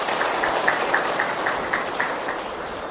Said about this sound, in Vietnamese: Nếu quý vị thấy điều đó là một chân lý thì hãy dành một tràng vỗ tay để cam kết.